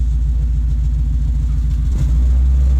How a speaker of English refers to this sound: All right. That exhaust note never gets old. I love it. It's one of the best things about the truck is the exhaust.